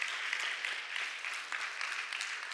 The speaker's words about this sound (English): Before I wrap up, I just want to take a moment to encourage the young men in this church, our college students, the brothers in this church. Man, yes, you can clap for them. Yes.